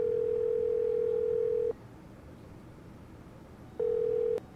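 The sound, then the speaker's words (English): A telephone dial tone hums steadily for over a second, stops, then returns briefly after a pause as a call is being placed: a clear electronic tone over faint line hiss, with no voices. “Well, maybe we ought to call my sister and see if she learned anything from this last phone call. Doing that right now.”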